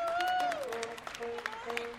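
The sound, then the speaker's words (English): A welcoming crowd of about 50 to 70 people breaks into steady applause as veterans walk down the jetway from a charter flight in Washington, D.C., dense overlapping claps with sustained tonal sounds, including a French horn playing old American tunes. “And as the vets start down the jetway toward the open door, they hear the sound of applause and music.”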